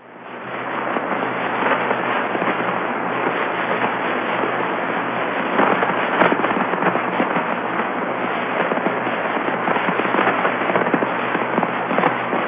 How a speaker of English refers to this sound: and here's the magnetic field of Jupiter, and these are things called S bursts. This comes from Dick Flagg at the University of Florida. This recording, this is low frequency radio emission, and it's coming from the magnetic poles of Jupiter.